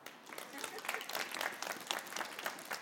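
An audience applauds steadily, many hands clapping in a dense, continuous patter, holding at an even level for a few seconds without a clear rise or fall.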